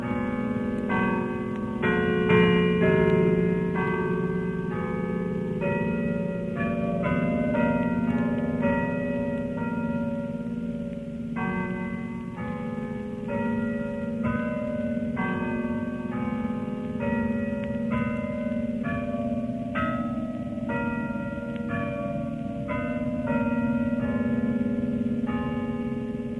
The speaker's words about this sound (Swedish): Det var han som läste dagens dikt vid premiären den 1 februari 1937, då Tegners dikt Det eviga gick ut till radiolyssnarna efter klockan 12 och klockorna från stadshustornet. Så här lät det.